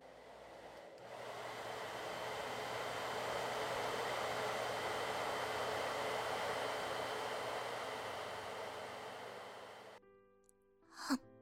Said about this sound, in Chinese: 停！你到底会不会用吹风机啊？哪有用吹风机热风一直对着一个地方吹的？都烫着我了。